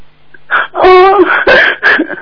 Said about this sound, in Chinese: 哦，这怎么着？我是咳嗽， 别 听啊！